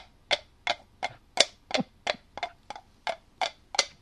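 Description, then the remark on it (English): Horse-hoof clopping made with the mouth: about eleven crisp, hollow clicks in a steady trotting rhythm, each sharp and moderately loud, with no talking. “I do have the horse clopping.”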